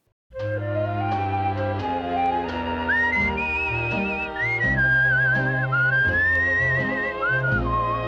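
A person whistles a smooth, wavering melody over a band's steady accompaniment of bass and sustained chords, the whistled tune rising and gliding up front for several seconds.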